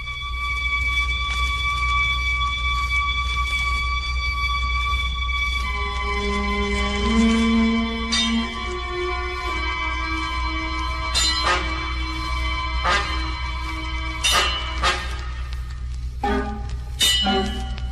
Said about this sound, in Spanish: Dieron las 6 campanadas en la torre de la ermita, amigo. Era la oracioncita.